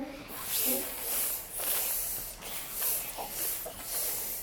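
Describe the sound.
A voice imitates a hissing snake while singing a French children's song: a series of long, breathy hisses swelling and fading in a steady rhythm, fairly loud.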